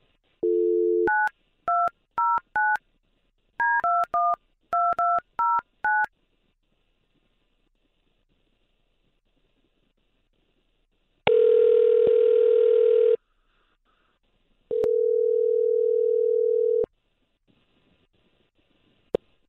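A quick run of two-tone touch-tone beeps punches out a phone number in two bursts as a call is placed, followed after a pause by two long, steady ringback tones. No one speaks.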